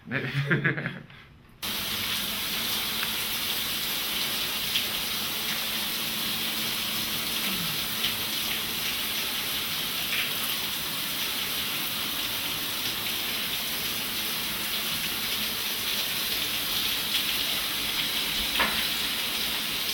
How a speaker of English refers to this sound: Okay, so now go ahead and go take a shower.